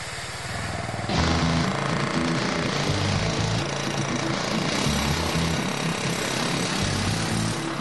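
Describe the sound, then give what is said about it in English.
A pneumatic jackhammer, worked by one man drilling a hole, rattles loudly and continuously, its rapid pounding kicking in hard after a brief quieter start and holding steady with no voices. “Today, with this pneumatic jackhammer, it takes one guy about 4 minutes.”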